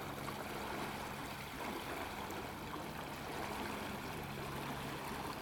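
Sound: flowing river water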